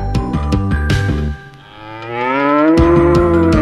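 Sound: cow mooing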